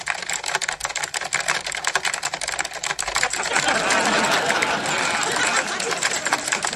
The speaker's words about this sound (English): You're just typing gibberish. Yeah, I should have told you. I can't type.